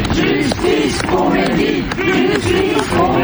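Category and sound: crowd, crowd shouting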